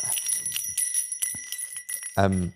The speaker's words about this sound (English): I think I'm going to ring these bells like every time we do a new section.